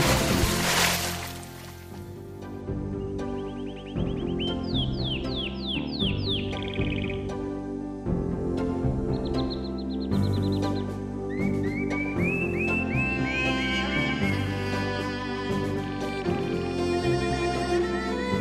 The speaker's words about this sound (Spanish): Yo ahora mismo me cogí una tumbona con este sonidito que estamos escuchando así, los pájaros. Mire, escucha. No me digan que no.